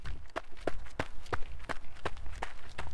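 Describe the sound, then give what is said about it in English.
Quick, evenly paced running footsteps of students on a prayer run strike a hard road surface, about three per second, each a crisp slap over a low rumble of outdoor background noise, with no talking. “The run is about having human footsteps cover the entire distance in prayer.”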